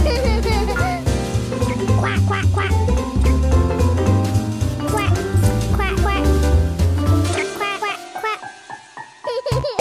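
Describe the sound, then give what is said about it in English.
Several voices pretend to be ducks with repeated, overlapping quacks over a steady musical backing, loud, until the music drops out near the end and a few quacks continue. “Oh, you want all of us to pretend to be ducks too? Quack.”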